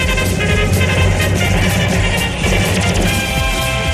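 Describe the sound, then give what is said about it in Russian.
A loud, brassy fanfare jingle plays continuously for a few seconds, bright and full with a steady driving rhythm, with no one speaking over it. “И если можно, фанфары заранее спасибо.”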